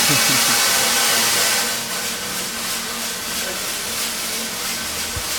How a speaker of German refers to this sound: Der Kaffee ist jetzt vom Silo in die Trommel reingefallen. Und die Trommel, die heizen wir mit einem Feuerhunger und die dreht, dass regelmässig und gleichmässig geröstet wird. Und jetzt ist es hier ein bisschen laut, weil das eben so kesselt.